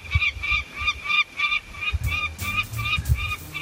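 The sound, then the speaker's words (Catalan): A bird calls outdoors at the highest point of a hike in the Serra de la Llena, in a quick, steady series of nasal, honking notes, about three per second, clear over low rumbling background noise. “L'ocell es va l'agradar veure'm.”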